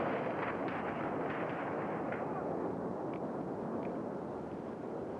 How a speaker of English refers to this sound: The business we owned, the gravel plant, was probably 1,500 to 2,000 feet from Pepcom. Sounded just like a bomb that went off right next to us.